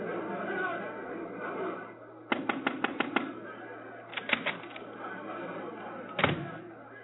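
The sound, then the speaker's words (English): A muffled crowd of people at the door shouts and clamors, refusing to leave, joined by a quick burst of sharp knocking or rattling and a single heavy thud near the end. “What is that shouting all about? People are at the door and refuse to leave.”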